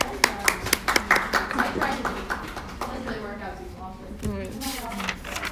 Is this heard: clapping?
yes